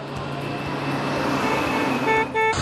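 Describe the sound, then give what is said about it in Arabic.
Steady roar of road traffic on the Jeddah–Mecca road as a car comes up beside the driver on the yellow-line emergency lane, followed near the end by two short, loud blasts of a car horn. “من أكبر المشاكل اللي حيحصل دحين جنبي سيارة جاية على اللين الأصفر، يعني أنا ماشي على الخط الأصفر المفروض.”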